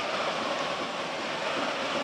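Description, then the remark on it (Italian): A steady, dense hiss of heavy rain pouring down on the Tardini stadium in Parma during a Parma–Bologna football match, an unbroken wash of noise that fills the whole clip at an even, fairly loud level with no voices. “Si sente perfino il rumore della pioggia, non so se lo potete udire in sottofondo.”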